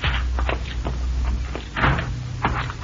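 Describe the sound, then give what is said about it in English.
A back door is opened and shut, with a series of knocks, creaks and clunks over a low steady background hum, ending in a firmer thud as it closes. “Let's use the back door, Cisco.”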